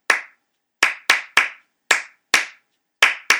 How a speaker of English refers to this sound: And that was me, you know, in the hot box, just layering claps over one over another and just saying, okay, that's a start to something.